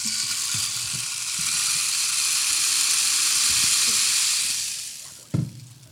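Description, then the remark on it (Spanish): A dense, steady downpour hisses loudly for several seconds with faint low thuds underneath, then trails off, followed by a single sharp knock near the end. “Tan aterrador que empezó a llover a cántaros.”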